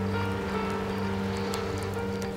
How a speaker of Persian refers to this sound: آخه من دریا رو خیلی دوست دارم. میشنوی صدای دریا رو؟